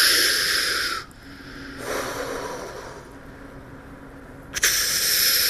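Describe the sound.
A voice imitates scuba regulator breathing while diving underwater: a harsh, hissing inhale, a softer, rougher exhale, then another loud hiss, with no talking.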